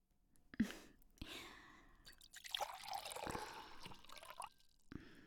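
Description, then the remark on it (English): Wine pours into a glass in a soft, gurgling trickle lasting a few seconds, the splashing pitch rising slightly as the glass fills. Quiet, with no talking. “Want some wine?”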